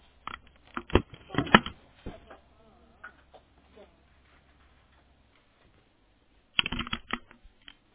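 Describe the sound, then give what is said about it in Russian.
A printer printing a downloaded PDF document: clusters of mechanical clicks and rattles over a low motor hum, then a quiet pause before another short burst of clattering near the end. “Что-то печатаю. Сейчас посмотрю.”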